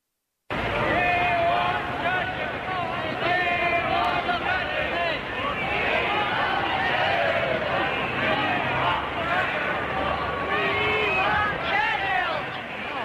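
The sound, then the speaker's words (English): A huge street crowd outside Whitehall in London roars and chants "We want Churchill," a dense, steady wall of many voices with shouts rising above it, loud and unbroken for the whole stretch after a brief silent start. “This is a commentary from live from the streets of London, and it's huge crowds chanting, "We want Churchill," outside Whitehall.”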